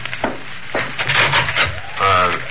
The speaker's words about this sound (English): Now, that might be the police, Caroline. I'm going to open the door.